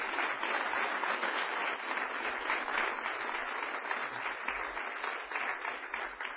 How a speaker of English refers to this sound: Would you join me in welcoming this panel with an enthusiastic round of applause?